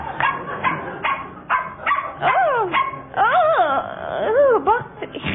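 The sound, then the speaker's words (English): A small Mexican hairless dog named Puente barks and yips in a quick, excited series of sharp high barks, with a few drawn-out, rising-and-falling yelps near the end. No one speaks. “That is Puente, my Mexican hairless.”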